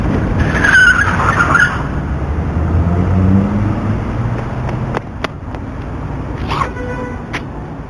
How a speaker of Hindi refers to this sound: और गाड़ी मार के चली गई। अरे इसको तो बहुत लगी, एक्सीडेंट हो गया। हेलो सर, यहाँ पर एक्सीडेंट हो गया है, एक आदमी को गाड़ी मारकर चली गई है, यहाँ पार्क के सामने।